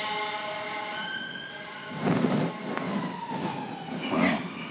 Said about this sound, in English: I've heard that one before, that siren.